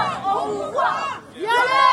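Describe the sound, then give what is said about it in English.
A large crowd outside a court shouts and chants in unison, "Rapist, we see you," as the accused arrive, many raised voices rising and falling together in an angry, sustained roar with no pauses. “The crowd screamed, "Rapist, we see you," as the accused arrived at the court wearing hoodies, baseball caps, and COVID masks.”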